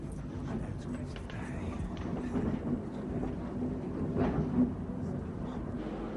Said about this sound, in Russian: Кажется, поезд идет.